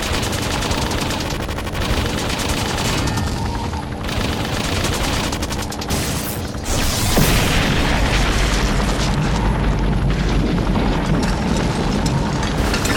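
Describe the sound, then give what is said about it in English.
A dense, crackling roar of an explosion from the ruptured fuel tank of a crashed aircraft fills the whole stretch, swelling into a heavier blast about halfway through that leaves a deep, sustained rumble beneath rapid popping bursts. “A roaring ball of red-yellow flame mushroomed up from the ruptured fuel tank.”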